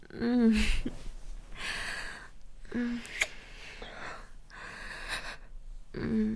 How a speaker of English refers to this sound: And you're breathing so hard, but sweetie. I wonder why.